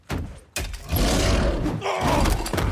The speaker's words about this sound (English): They always had, like, a little undercut of, like, a lion roar.